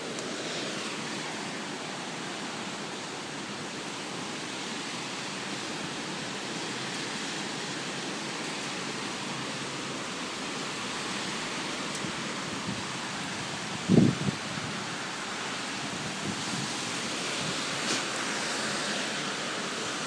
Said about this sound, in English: I am inside a terrace and the rain is hitting me on the head and everywhere.